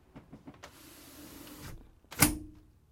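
A few soft clicks, then a steady electric motor whir for about a second as a window slides shut, ending with a loud, sharp thud as it closes. No one speaks.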